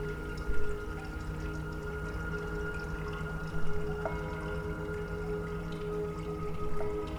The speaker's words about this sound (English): The first time that Yamamoto saw the completed work, it was a moment when the gong that you've just heard, perhaps, played as he walked through the door. And of course, that's a temple gong, and it was recorded in Tokyo in a Buddhist temple.